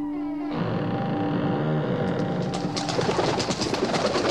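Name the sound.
bird call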